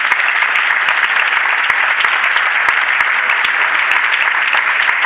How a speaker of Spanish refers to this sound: Un fuerte aplauso para Elvira.